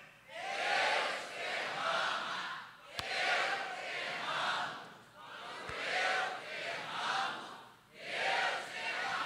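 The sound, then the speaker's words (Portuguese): An audience shouts together in unison at a preacher's prompt, chanting loud repeated phrases such as "porque a morte é certa, eu vou viver melhor" in a steady rhythm, with brief dips between each burst of voices. “Não, gente, gritado.”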